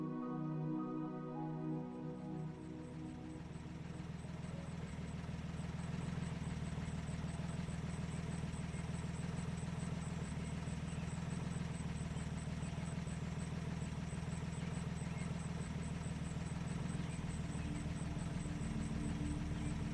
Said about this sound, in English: We start in front of a cozy suburban home as you're about to start a long, relaxing drive. The car idles quietly in the driveway.